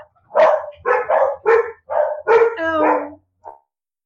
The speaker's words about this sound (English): And my dogs decide to bark, of course, when I'm in the middle of doing this.